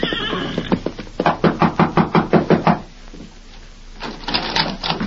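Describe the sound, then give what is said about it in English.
A quick, insistent burst of about ten loud knocks on the wooden rear door of the Rainbow Cafe by a rider dressed in a prisoner's gray denim, evenly spaced and pounding, with quieter scuffling noises before and after. “Sometime later, a grim-faced rider dressed in the gray denim of a prisoner flung himself from the back of an exhausted horse and knocked at the rear door of the Rainbow Cafe.”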